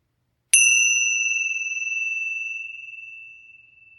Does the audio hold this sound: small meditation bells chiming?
yes